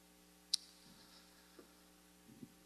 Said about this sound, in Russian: Не, ну надо что-то сделать с кондиционером. Я не знаю, что... Вроде бы дует, но не дует. Вернее, дует, но не... Как говорится, солнце светит, но не греет, а у нас наоборот. Кондиционер дует, но ничего не происходит.